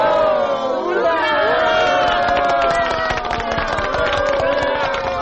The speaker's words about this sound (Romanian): A urmat aclamații entuziaste și aplauze.